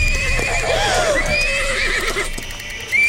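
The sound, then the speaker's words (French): An agitated pony, Petit Tonnerre, neighs loudly, a shrill wavering whinny lasting a few seconds, with faint hoof clatter and a hint of background voices. “Raisonne ton poney, Yakari.”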